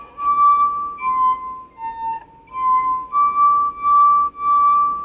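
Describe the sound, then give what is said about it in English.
A short melody rings out on drinking glasses filled with different amounts of water, a series of clear, sustained glassy notes stepping between pitches with brief gaps, fairly loud with no talking. “With enough of these, you could even play a song.”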